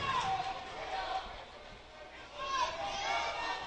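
A crowd cheers and shouts in a steady wash of noise, swelling again toward the end, with a few brief high squeaks cutting through the din.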